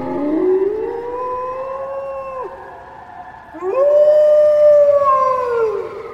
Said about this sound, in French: Elle tressaillit. Puis ce fut un hurlement dans la montagne.